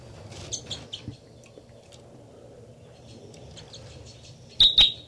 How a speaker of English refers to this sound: Start recording now. This is the song of bird 318.